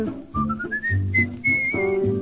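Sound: whistling a melody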